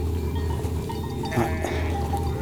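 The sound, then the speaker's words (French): A ewe bleats, a short wavering cry that breaks into a quick second bleat, rising over a steady low rumble of background noise, as a flock of ewes is guided by a herder and her dog. No one speaks. “qui guident et déterminent les déplacements des brebis.”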